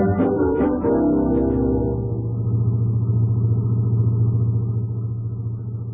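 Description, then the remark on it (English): A car engine starts with a few sharp clicks and a rising whir, then settles into a steady low rumbling drone as the car drives along at night, fairly loud. “Nice night to drive.”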